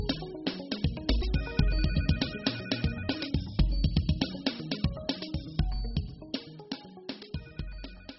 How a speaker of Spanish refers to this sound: Lo tengo que dejar, tengo que irme porque me está sonando el teléfono.